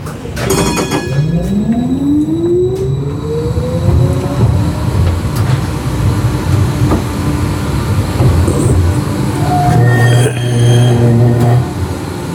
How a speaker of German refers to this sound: Puh, das war jetzt echt mächtig interessant, wie das so ist, mal eine Straßenbahn aus dem Märchenschlaf aufzuwecken.